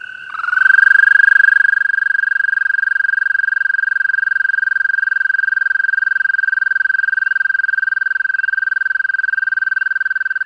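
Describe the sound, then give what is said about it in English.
A male American toad (Bufo americanus) breeding trill: one long, steady, high-pitched musical trill on a single breath, air shuttled back and forth over an expanding vocal pouch, starting abruptly and holding at an even loudness for about ten seconds, clear, with no other sounds. “Yes, the breeding call of the male is a long, dreamlike trill.”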